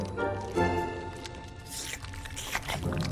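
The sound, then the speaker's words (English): Wet, squishy slurping and smacking as Butterball eats mushy green broccoli from a torn-open packet, a steady stream of irregular gooey bursts at moderate loudness with no talking. “Butterball rips into the broccoli packet and slurps up the mushy green food.”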